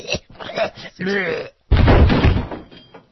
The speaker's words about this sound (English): He fell onto a floor full of hammers. We just do that for that sound effect, because we think that's what it sounds like when Dick Morris falls down after he gets winded from a run-on sentence.